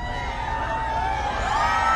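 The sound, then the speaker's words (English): A crowd of a few hundred admirers cheers and shouts continuously outside a mall in Michigan as Sarah Palin arrives in her Going Rogue bus. A dense wash of many overlapping voices, with scattered whoops rising above the steady roar. “When Palin arrived in her Going Rogue bus that's painted to look like her book cover, she addressed a crowd of a few hundred admirers waiting outside of the mall here.”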